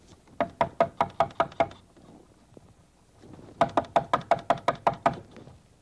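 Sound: knocking on a door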